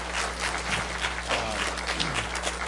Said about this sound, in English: What a fantastic awards ceremony. Let's give a round of applause to all of our kids for doing such a great job this school year.